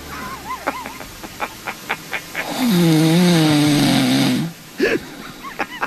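Michael Felger snores once, a long, loud, rasping inhale lasting about two seconds with a low, wavering buzz, after a run of short soft ticks and followed by a brief snort.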